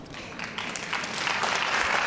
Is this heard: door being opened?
no